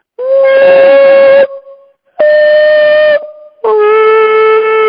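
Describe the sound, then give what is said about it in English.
A voice sings three long, steady tones at one mid pitch in a huge conference-venue room, seeking the room's resonant frequency; loud and rich in overtones, with a faint lingering ring of echo in the short pauses between them. “But here's, let's see if I can find the resonant frequency of this room.”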